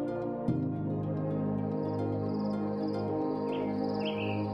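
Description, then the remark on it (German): A dense dawn jungle chorus: a steady chirring of crickets fills the background, then countless bird species join with repeated high chirps and short calls over the continuous insect drone, with no one speaking. “Nach den munteren Grillen sind die unzähligen Vogelarten an der Reihe, die ihren Platz im morgendlichen Urwaldkonzert einnehmen.”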